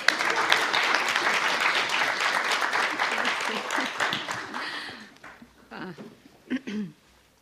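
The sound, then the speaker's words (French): A crowd claps steadily for about five seconds, dense and lively, then the applause thins out as a voice begins speaking. “On peut l'applaudir, hein?”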